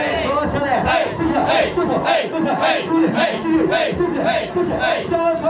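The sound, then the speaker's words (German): A group of male hosts at a Japanese host club chants loudly in unison during a champagne call (Champagoru) centred on a female customer: a rhythmic call-and-response with pulsing, repeated shouted phrases and a festive, energetic beat. “Beim sogenannten Champagner-Call, auf Japanisch Champagoru, steht die Kundin dann richtig im Mittelpunkt.”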